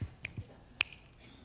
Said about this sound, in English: She said, "Did you hear it? Thank you, Jesus, for teaching me how to snap my fingers.